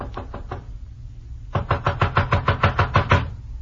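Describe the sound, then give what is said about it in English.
Knocking on the door of a houseboat (dahabia) on the Nile, sharp: a quick burst of about four raps, a short pause, then a longer steady series of around ten firm knocks over a low background hum. “I walked up the narrow awning-covered gangplank that led to the little deck and knocked at the door.”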